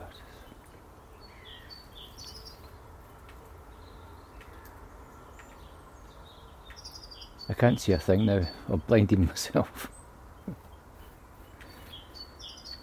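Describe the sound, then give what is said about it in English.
Faint birdsong from birds in a garden, scattered chirps and short twittering calls repeating softly in the background, with a person briefly speaking partway through. “I'll have to move or I can't see the birds in the garden.”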